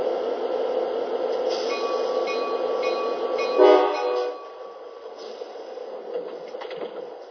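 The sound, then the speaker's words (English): A Sounder commuter train, train 1510 from Lakewood to Seattle, rolls steadily along the rails with a continuous rumble. Partway through, a brief horn blast rises over the noise before the running sound settles back down. “Now departing for Seattle on track 2, train 1510, Sounder, Lakewood to Seattle.”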